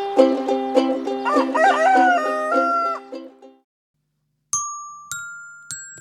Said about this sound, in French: Monsieur Coq, dès le matin, quand le jour se lève, il réveille ses voisins, il n'a plus sommeil. Cocorico, cocorico, allez, levez-vous. Cocorico, cocorico, tout le monde debout.